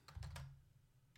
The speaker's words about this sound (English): You're probably going to hear my keys while I'm typing, but The Dark Knight.